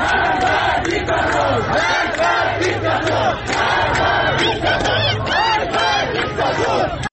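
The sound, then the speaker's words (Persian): A large protest crowd in Sanandaj, western Iran, chants and shouts in unison, loud and continuous, with rhythmic rising and falling voices and a dense wash of many people yelling together throughout. “یکی از جاهایی که باز هم شاهد اعتراض بوده غرب ایران در سنندج هست، که ما در سنندج در آبان ماه هم در شهرهای اطرافش هم شاهد اعتراضات گسترده‌ای بودیم. این صدا هم از سنندج هست.”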